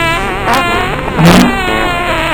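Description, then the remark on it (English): A police car's engine runs at a steady, buzzy rev, with a brief louder surge partway through, with no talking. “This cop car is still cold after 3 seconds.”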